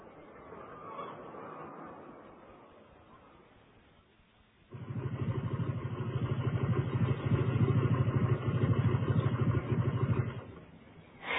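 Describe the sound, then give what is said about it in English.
The engine of a motorcycle that has been ridden all the way around the world on a 3-year journey kicks in after a few seconds of faint background noise, running loud with a steady, throbbing rumble for about six seconds before cutting off. “The motorbike I'm sitting on is a very special one.”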